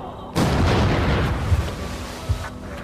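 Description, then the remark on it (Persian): A sudden loud gunshot-like blast erupts and rolls into a sustained rumbling roar, with a couple of sharper thumps following inside the noisy tail. “خورشید سجده می کرد، پرنده ها سجده می کردند، حتی گلوله بعد از شلیک هم.”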